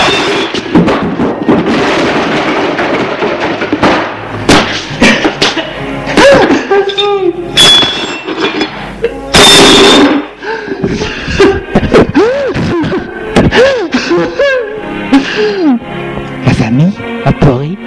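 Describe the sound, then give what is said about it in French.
Loud crashes and thuds of objects being thrown to the floor in a bedroom break out amid agitated, shouting voices. Heavy impacts land irregularly and forcefully over several seconds. “Là, on entend hurler, jeter à terre des objets.”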